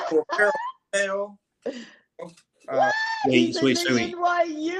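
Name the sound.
excited screaming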